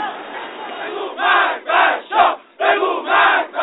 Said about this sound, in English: The crowd shouted death to the Shah.